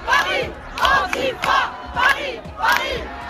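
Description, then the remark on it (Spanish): A large street crowd of left-wing supporters in France chants in unison that Paris is antifascist and everyone hates the fascists, with loud rhythmic bursts of shouted slogans repeating roughly every 0.6 seconds and brief dips between phrases. “A gritar París es antifascista y todo el mundo odia a los fachas para mostrar su rechazo ante un posible gobierno de extrema derecha que está cada vez más cerca.”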